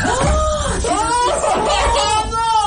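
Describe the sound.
Several voices cry out together in loud, overlapping shrieks of horror as a container of forgotten leftover paella is set on a kitchen worktop and opened, the pitches swooping up and down in drawn-out wails for a few seconds, continuous, edged with nervous laughter.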